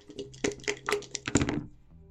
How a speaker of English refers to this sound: That's you rolling dice, playing a board game. I love the sound of rolling dice and, for playing games and all that kind of things.